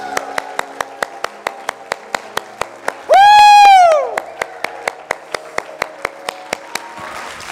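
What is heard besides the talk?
audience clapping hands loudly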